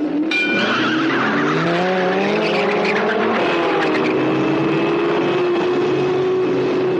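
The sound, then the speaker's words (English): Racing cars in the film Death Race 2000 roar at high speed, their engines whining in rising and falling pitch while tires squeal and skid, a loud continuous rush with no voices. “the drivers are ready, the world is waiting”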